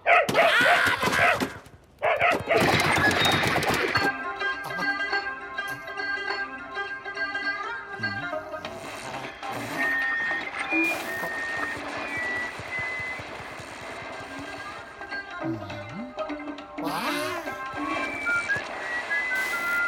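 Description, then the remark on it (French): An anxious dog gives a few sharp, noisy barks, then carries on with long, high-pitched whines and yelps that rise and fall in pitch, with no one talking. “Voici l'aboiement typique d'un chien anxieux.”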